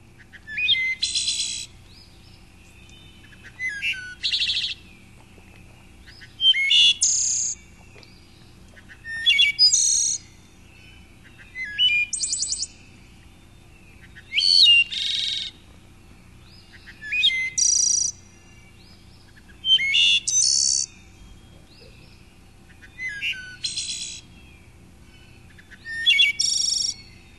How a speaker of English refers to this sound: So those were some of the details of some of the songs of the wood thrush.